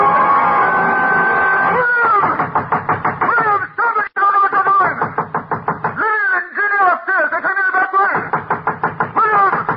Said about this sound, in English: As I nailed the boards across the door, I felt as if I were driving nails into his car.